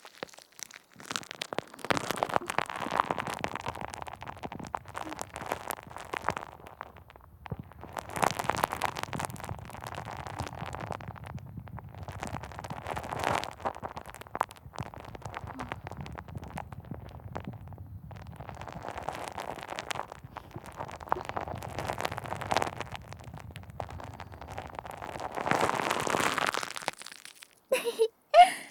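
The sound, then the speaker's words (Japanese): Close-up fizzing and crackling of soft, fluffy carbonated foam pressed right against the microphone as if against the listener's ear, a dense continuous crackle that swells into louder bursts every few seconds, with no talking. “柔らかいふわふわは 炭酸がパチパチ弾けて気持ちよすぎるだろ”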